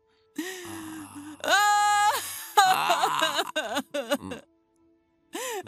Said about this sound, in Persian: وای خدا، داری گریه میکنه.